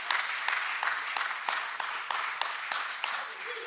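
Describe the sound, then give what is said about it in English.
An audience claps their hands together in a steady, rhythmic beat to praise the Lord during worship, producing a dense, bright wash of claps with regular sharp accents, fairly loud and continuous throughout. “Let's clap our hands for the oh, Lord.”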